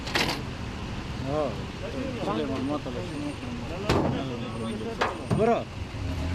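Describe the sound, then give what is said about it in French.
A white Toyota Corolla rolls up and stops at a police checkpoint, idling amid steady road noise, with several people talking and a few sharp clunks and clicks breaking through as a police officer opens its trunk. “L'un d'eux fait signe à une Toyota Corolla blanche. Le conducteur s'arrête à son niveau.”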